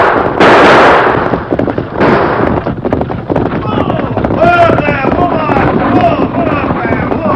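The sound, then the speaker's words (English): Sharp, loud bursts of gunfire crack out over rapid galloping hoofbeats during an outlaws' holdup of a stagecoach, with shouting voices rising amid the commotion. “I reckon not, unless a stray bullet hit my passenger.”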